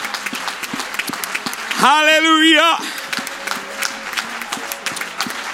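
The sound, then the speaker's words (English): An audience applauding steadily in praise to the Lord before being seated, a dense wash of many hands clapping throughout, while a man's voice rises over it with a loud, sustained exclamation in the middle. “Can we give the Lord one more thunderous applause of praise before we're seated here?”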